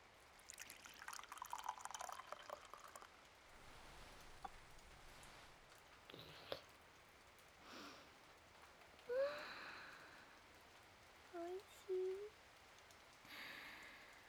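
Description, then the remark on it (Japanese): Steady rain falls softly throughout in a constant hiss, heard from a veranda where tea is being drunk, with a brief splash of poured liquid midway and a few faint drips and clinks. “雨の降りしきる中、縁側でまったりとお茶を飲むというのはとても風流ですね。”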